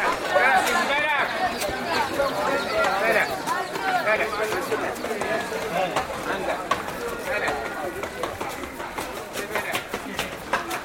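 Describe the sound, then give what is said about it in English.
Donkey hooves clip-clop steadily on hard ground amid a dense crowd murmur, with many voices chattering in a busy, echoing narrow alleyway inside the ancient walled old city of Fez. “So the traffic inside Old Fez is mostly people and donkeys.”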